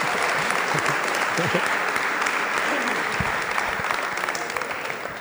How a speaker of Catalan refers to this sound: Jo crec que es mereix un aplaudiment.